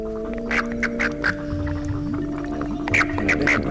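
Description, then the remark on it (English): A southern toad (Bufo terrestris) gives warning chirps, short bright bursts in two quick clusters, over a steady buzzing warning vibration that drones beneath them, clear, with no talking. “Both sounds can be heard in the southern toad, Bufo terrestris.”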